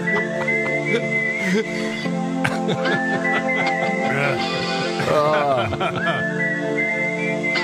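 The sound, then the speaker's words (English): A bright whistled melody carries the tune over a full rock band, with sliding, sustained notes and steady loud accompaniment throughout. “Whistling prominently featured.”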